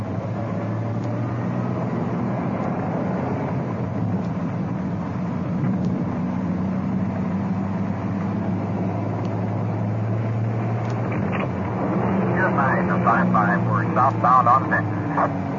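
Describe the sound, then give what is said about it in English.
A police car's engine drones loudly and steadily as it speeds around the block in a hurry to get in behind a suspect's car, with higher whining, squealing tones rising over the rumble near the end. “We'll have to shoot around the block now in a hurry and get in behind.”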